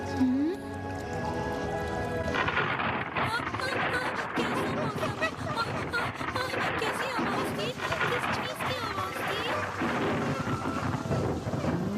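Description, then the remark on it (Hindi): Heavy rain pours down steadily in a dense hiss, with deep thunder rumbling underneath; a brief tonal, musical sound comes just before the downpour swells in. “अरे आज तो बहुत तेज बारिश है।”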